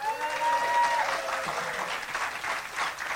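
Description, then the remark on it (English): An audience claps steadily for about three seconds to show who made a meaningful epiphany or change in their life that week, a dense, even patter of many hands at moderate volume, with a brief high tonal cry riding over the start. “You know, just the fact that we're protected by audio and we don't have faces and so forth out there, let's see if anybody made a meaningful epiphany or change in their life this week by applause.”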